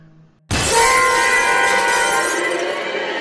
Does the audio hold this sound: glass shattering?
yes